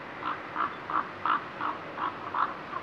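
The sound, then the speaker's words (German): A common raven gives a quick series of about eight deep, croaking calls at a steady, even rhythm, moderately loud, with no voices present. “Die Kolkraben mit ihrem riesigen Schnabel, die größten von allen Rabenvögeln, haben eine besonders tiefe Stimme.”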